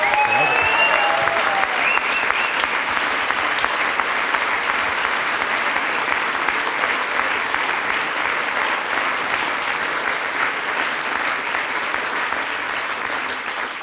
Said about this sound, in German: Und der kriegt jetzt einmal einen riesengroßen Applaus.